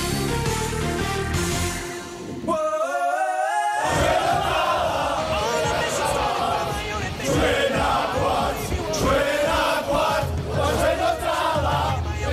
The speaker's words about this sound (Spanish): El grito de guerra de los jugadores de Georgia, que hacen historia metiéndose en esos octavos de final.